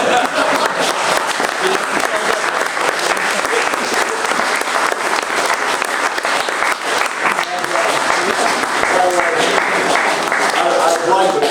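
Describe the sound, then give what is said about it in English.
Sustained applause from an audience fills the whole stretch, dense steady clapping at a loud, even level with some faint voices mixed in. “They truly put in an enormous amount of work on this, so the applause is very, very well deserved.”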